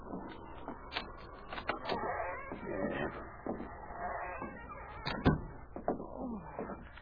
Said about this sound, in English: Oh, it needs repairing. I'll unlock the door.